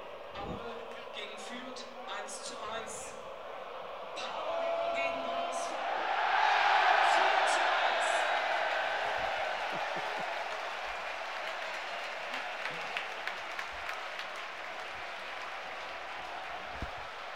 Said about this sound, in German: Und jetzt der größte Jubel ist die Häme des, gegenüber dem Versagen des Stadtrivalen. Und das hören wir uns dann gleich mal laut an. Ich mache die Atmo laut, dann hört ihr wenigstens ein Torjubel.